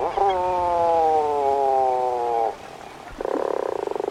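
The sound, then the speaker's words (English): Puffin calls: a long, steady, droning moan with a slight downward slide lasts a couple of seconds, then after a brief pause a buzzy, rapidly pulsing growl follows. “Puffins remain largely solitary for the 7 months of the year they spend at sea.”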